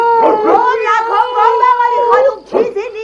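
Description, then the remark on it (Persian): A dog, Hapu Kumar, howls loudly in long, wavering, drawn-out tones, broken near the end by a couple of short, sharp barks. “هاپو کومار باغباغ میکنه. چطور چیزی نیست؟ این سگه میخواد امشب مرا بخوره.”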